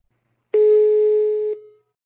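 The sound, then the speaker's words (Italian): A single steady telephone ringing tone sounds for about one second, fairly loud and clear, then cuts off with a brief fade, with silence before and after and no voices; a phone call to an association member during the pandemic. “Abbiamo sentito al telefono una cinquantina di soci per farci raccontare la loro quotidianità.”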